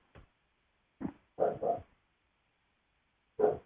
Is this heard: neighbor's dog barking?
yes